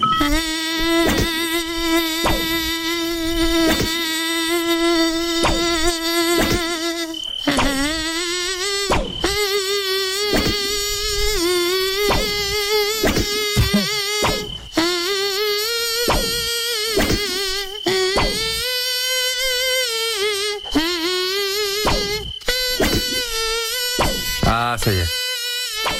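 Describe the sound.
A loud mosquito-like buzz in a studio whines through a tune, its pitch stepping up and down in a clear melody, continuous with only brief breaks between phrases and no talking.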